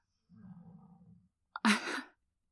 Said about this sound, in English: So, oh my gosh, did you just hear my dog snore? Because yeah, he's snoring right now.